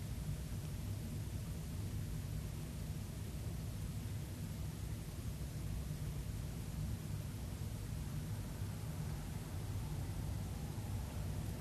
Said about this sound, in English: The sound of my voice, the air conditioner,